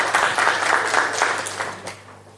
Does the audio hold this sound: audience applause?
yes